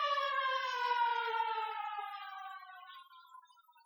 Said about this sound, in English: Here comes another fire truck.